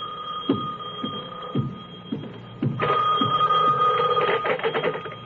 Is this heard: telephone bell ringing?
yes